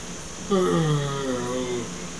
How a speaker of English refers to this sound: You do that. You yawn. Can you yawn?